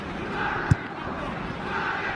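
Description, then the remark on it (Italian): A stadium crowd of Palermo football fans chants steadily in the background during a match against Inter, a continuous roar of many voices, with one brief sharp thump partway through. “Sentite un po' di tifosi del Palermo in sottofondo”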